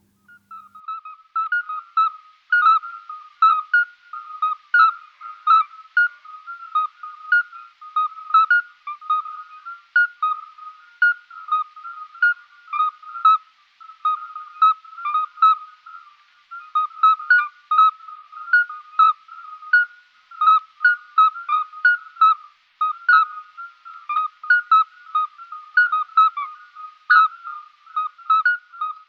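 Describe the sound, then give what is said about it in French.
A toad calling with short, pure whistled notes like a little scops owl, repeated steadily and often overlapping as if several are piping, a mid-pitched chorus that runs unbroken with no voices. “Et alors là, il y a un sentiment pour moi d'extraordinaire quand je l'écoute, parce qu'il chante vraiment comme un petit hibou petit duc.”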